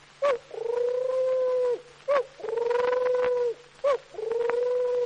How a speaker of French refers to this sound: La tourterelle.